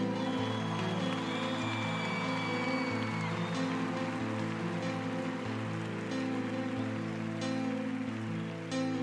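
Steady, dense audience applause for the musicians invited to share a song fills the whole clip, a continuous hiss of many hands clapping over a bed of sustained low musical tones, with no voices standing out.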